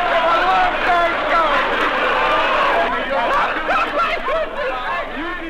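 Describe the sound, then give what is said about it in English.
A large crowd of thousands at City Hall chatters in a dense, continuous roar of overlapping voices, loud and steady throughout, with occasional shouts and laughter rising from the din. “And from the City Hall balcony, safe from the crowds, more thousands of them, the stout-hearted men talked to their subject.”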